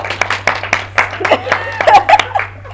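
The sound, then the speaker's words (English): A small group claps in scattered, uneven bursts for a few seconds, with chuckles and murmuring voices mixed in, voting by applause on whether they would see Detective Pikachu after watching its trailer. The applause is moderately loud, thinning out toward the end. “And by a round of applause, based on the trailer you have just seen, would you see Detective Pikachu?”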